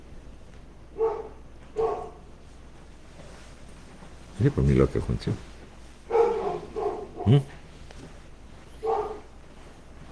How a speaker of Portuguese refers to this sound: A cachorrinha está latindo aqui. Ela estava latindo para alguma coisa lá fora ou aqui dentro? Ela estava dentro? Ah, olhando para fora. Então ela viu algum negócio lá, viu algum mosquito, algum negocinho.